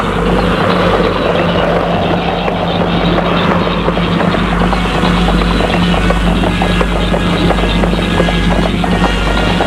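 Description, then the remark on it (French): Horse hooves clip-clop in a steady, continuous rhythm, fairly loud, over a constant low rumbling background noise that lasts the whole time. No one speaks. “Puis, dans la soirée, elle prend son cheval.”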